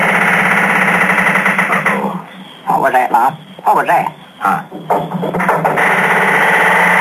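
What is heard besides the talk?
squeaking barn door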